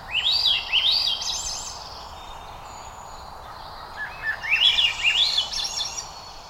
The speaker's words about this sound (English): This is not a flying saucer hovering over western Arkansas. Little green people are not taking over Earth. This is Swainson's thrush, not a Martian, but rather a modest olive-backed bird, cousin to our familiar robin.